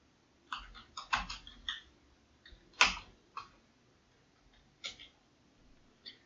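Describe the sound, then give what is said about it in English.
Slow, uneven keyboard typing, with sparse clicky keystrokes spaced apart as if pecked out with one hand, close by and fairly quiet, with no talking. “Like typing it one hand is really, really.”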